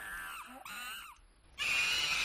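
Monkeys call in shrill, rising and falling whoops over about a second, then after a short pause a loud, harsh burst of screeching chatter takes over.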